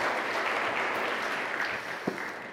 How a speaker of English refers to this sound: Okay, round of applause for these lovely kids who came forward and helped me out.